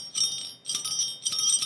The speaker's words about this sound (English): Isolate. One bell.